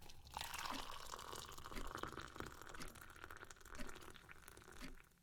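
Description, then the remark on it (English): Boiling hot tea poured into a cup, a steady splashing trickle that runs for about five seconds with small bubbly crackles, then tapers off. No one speaks. “I have poured myself another cup of boiling hot tea.”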